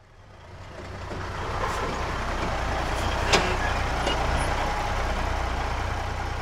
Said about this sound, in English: A big lorry comes to the school every Friday and collects all our paper, cardboard, glass, metal, and plastic for recycling.